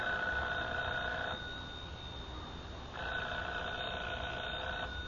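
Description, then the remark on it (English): A telephone rings twice, each ring a buzzing, bell-like trill lasting over a second, separated by a short pause with a low background hum. No one speaks. “Should I answer it? Answer it. Hold the receiver up, that's right.”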